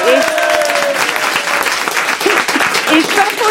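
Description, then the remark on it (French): Loud, sustained audience applause for a woman who has just performed in a concert, a dense crackle of many hands clapping at once, with a few voices and whistles rising briefly through it. “Ah, et tout le monde bien, va t'applaudir hein.”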